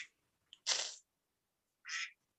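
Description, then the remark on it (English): A duck gives two short, nasal quacks, the first louder and raspier, the second slightly thinner after a brief pause, against a quiet background with no talking. “You left your duck out here.”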